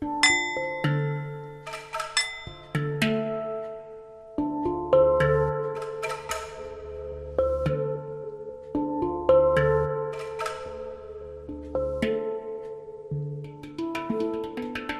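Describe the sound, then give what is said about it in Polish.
Nepalese singing bowls struck again and again, each hit blooming into a sustained, shimmering tone whose overtones overlap the next strike, with deep humming undertones and no voices. “Kładzie się takiego chorego na plecach i na brzuchu mu się układa taką miskę, tylko większa. Łatwiej jest wtedy grać.”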